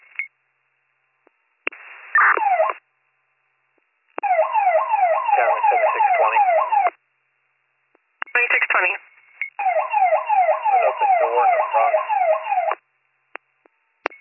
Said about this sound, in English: With the alarm in the background.